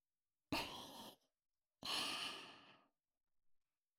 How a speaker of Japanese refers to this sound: 私の吐息、敏感なお耳でいっぱい味わってくださいね。